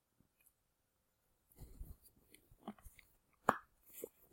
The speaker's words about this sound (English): But before I do, I'm just going to take a sip of water because I'm getting a little dry. Bear with me.